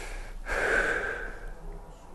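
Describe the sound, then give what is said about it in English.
A single deliberate, audible breath drawn in, a soft airy rush swelling for about a second and then fading, with no talking around it. “Do you know that just by breathing you're creating karma?”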